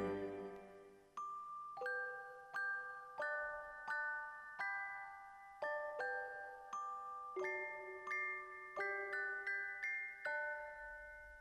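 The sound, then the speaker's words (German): The carillon of the Garnisonkirche (garrison church) rings out a slow melody, bright bell tones struck one after another in a steady rhythm, each note ringing on and overlapping the next, with no voices. “Da klang von der Garnisonkirche her das Glockenspiel hell und doch warnungsschwer.”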